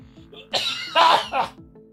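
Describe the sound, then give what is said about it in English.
A harsh bout of coughing caused by an ear infection: three rough bursts in quick succession, the middle one loudest, with a faint low hum underneath. “My ear infection is causing me to cough.”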